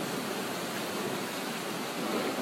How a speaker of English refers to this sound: I heard that it had been quite hot, and now we have this cool and drenching rain.